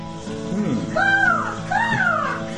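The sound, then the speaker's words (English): A pet crow, just flown in from the kitchen, caws twice, two harsh rising-and-falling calls close together, loud, over a steady low background hum. “Yeah, well, we have our pet crow who just flew in from the kitchen”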